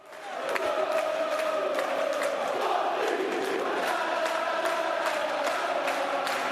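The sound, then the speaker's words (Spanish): A dense, sustained crowd roar fills an indoor sports arena, thousands of voices shouting at once with a steady, loud wash of noise and sharp bursts of cheering throughout. “Hemos encontrado un sonido y me ha tenido que asegurar, Javier, que correspondía a un pabellón y que no era un estadio para 100.000 personas.”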